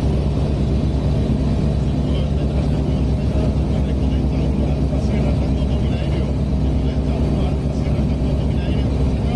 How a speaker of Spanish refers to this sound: Ojo que tenéis que estar muy atentos y agudizar el oído porque con el ruido de la avioneta casi casi no se le escucha, pero prestad atención y poned ahí el oído y podréis escuchar